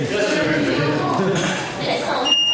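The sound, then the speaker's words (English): Voices chatter throughout a video game quiz, then a brief, high-pitched electronic quiz buzzer tone sounds right at the end as a test of the buzzer, short and clear above the fading talk. “I was just making sure the buzzer worked.”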